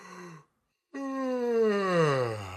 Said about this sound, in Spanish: Vemos bostezar y tendemos a bostezar.